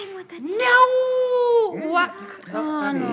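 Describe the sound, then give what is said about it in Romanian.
A person trying to imitate a hen's cackle instead makes a cat-like meow, one long, drawn-out whining call that rises and then sags, followed by a few shorter voiced sounds, fairly loud. “E un miunat de pisică.”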